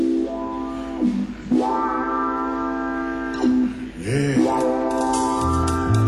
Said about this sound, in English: And if I listen real close to Chuck's pedal steel guitar, I can hear that train whistle blowing right now.